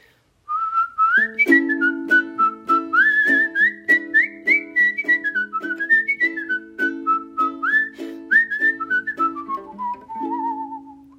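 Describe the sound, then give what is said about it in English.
A lively folk melody whistled clearly, bouncing through quick notes, over steady strummed ukulele chords played by the whistler, keeping a brisk rhythm underneath, with no talking. “And were you just playing the ukulele there with your whistling? I was playing the ukulele.”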